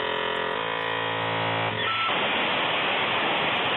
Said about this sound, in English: That's what we used to have to do to get on the internet. That's called a dial-up modem. That's what it is. And you used to have to check with mom, can I have the phone line for 30 minutes?